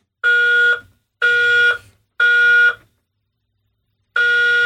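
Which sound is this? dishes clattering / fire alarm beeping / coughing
fire alarm beeping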